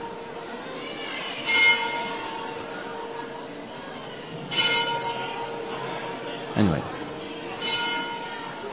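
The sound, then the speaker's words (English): A bell, rung by a man pulling a rope, rings repeatedly, each clang struck every couple of seconds with a long humming tone ringing on between strikes, with a brief spoken word over it. “There's a man pulling a rope. We just have to ask the man, stop pulling the rope, and the bell stops.”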